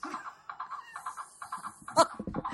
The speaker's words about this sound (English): Okay. What is that? It's my galloping horse sound effect. Because he does a lot of galloping.